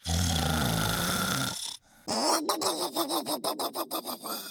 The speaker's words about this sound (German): … schläft auf Trudes Schoß ein und schnarcht.